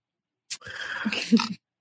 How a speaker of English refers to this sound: I hear the meowing.